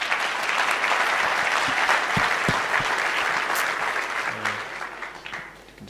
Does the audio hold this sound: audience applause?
yes